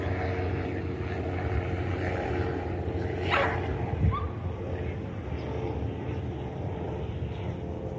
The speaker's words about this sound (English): here comes a helicopter. I don't know how much we're going to just wait on that. Police helicopters, they are fairly common around here.